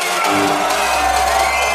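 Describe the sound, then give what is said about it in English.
A loud, dense roar of a large crowd cheering and screaming, sustained, filling the whole stretch without a break. “But let me hear some noise for One Extra on Radio One.”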